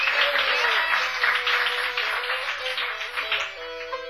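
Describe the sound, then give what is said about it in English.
A crowd applauds steadily for a touring band's crew member who helps drive the bus, runs the sound and sells the shirts, a dense wash of many hands clapping at a fairly loud level that holds for several seconds before beginning to thin out. “He helps us drive the bus and makes the sound and sell the shirts and do a whole bunch of things for us and deserves a big hand. Give him a big hand.”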